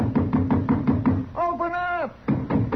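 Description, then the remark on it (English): A series of firm, quick knocks on the wooden door of a house, about seven raps in a steady rhythm, then a brief voice calling out to ask whether anybody is in there before the knocking resumes. “Go ahead and knock.”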